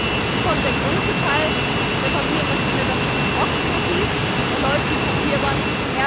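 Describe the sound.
A loud, steady industrial roar of a running paper machine in a factory, a huge steel-pipe machine partly behind plastic casing that sprays pulp onto a nearly 10-metre-wide belt, fills the whole clip, with a person's voice barely audible, explaining underneath the constant din.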